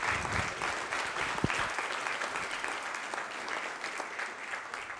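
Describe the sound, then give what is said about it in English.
An audience claps steadily for several seconds, a dense, even patter of many hands with no voices standing out, fading slightly toward the end. “It a round of applause for these.”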